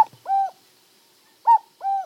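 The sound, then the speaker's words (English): A common cuckoo calls clearly, its soft hooting notes falling into the familiar two-note cu-coo pattern, repeated with short pauses and no voices around. “Birdsong is heard frequently in the music of the masters, and no bird has been so often evoked in song and symphony as the cuckoo.”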